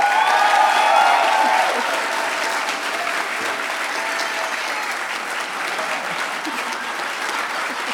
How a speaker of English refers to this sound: Okay, and one more round of applause for Johannes, everybody.